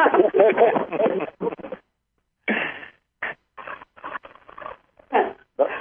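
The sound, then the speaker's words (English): A person imitates dolphin squeaks, making a long run of high, chattering squeals followed by several short squeaky bursts separated by brief pauses. “No one else wants to make a dolphin sound, huh?”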